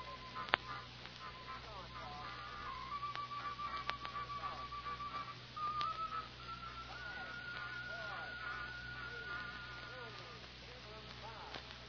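A telephone being dialed: scattered sharp clicks and short steady tones ring out over a constant crackly hiss, with no one speaking.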